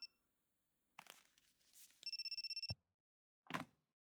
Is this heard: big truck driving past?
no